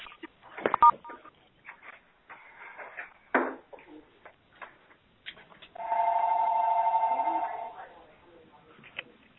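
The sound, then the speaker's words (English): Telephone keypad tones over a thin phone line as someone dials *6 to mute their phone on a Healthcare Association conference call: scattered clicks and handling noises, then one long, steady dual-pitched beep held for a few seconds before it cuts off. No one speaks. “Could everybody please mute their phones by dialing *6 on their phone, please?”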